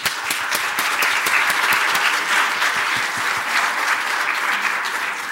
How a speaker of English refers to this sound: And while he's entering the stage, please give them a warm applause.